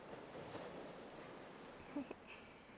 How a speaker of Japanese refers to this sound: 夜の海って静かでいいですね。聞こえるのは心地いい波の音だけ。落ち着くな。